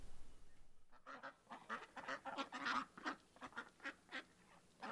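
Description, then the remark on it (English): A flock of geese honks repeatedly, loud overlapping calls coming in a rapid, uneven burst with no voices. “Come on, Geese. Come on.”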